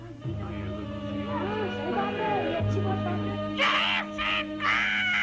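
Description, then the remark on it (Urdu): A parrot chatters in a warbling, voice-like way, then lets out several harsh, loud squawks near the end, all over a steady low background drone. “واہ، یہ طوطا تو بہت عقل مند ہے۔”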